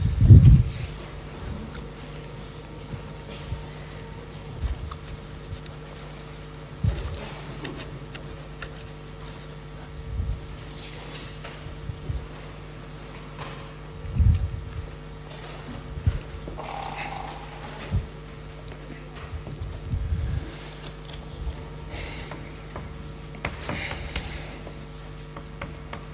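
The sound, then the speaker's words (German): Soft, irregular scrubbing strokes as a sponge is wiped across a wall to clean it, with brief rubbing bursts every few seconds over a steady low hum; no one speaks. “jetzt muss ich mal kurz hier die Wand sauber machen, wenn ein Schwamm da ist.”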